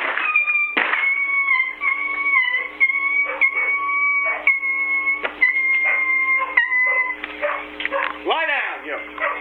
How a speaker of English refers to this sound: This damn dog. There he goes. Hold on a second. Come here, you fucker.